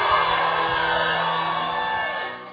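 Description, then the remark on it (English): An audience shouts for God together in a loud, sustained burst of overlapping voices and whoops, holding steady for a couple of seconds before starting to fade at the end. “Shout unto God with a voice of triumph. Can we shout for God?”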